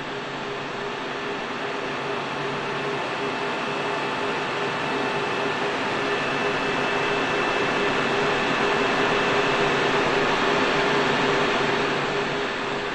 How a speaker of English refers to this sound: As we walked through the first of 3 locked doors, we could already hear the din of servers in the coming room. As we passed through each door and into the server room, the din rose to a roar.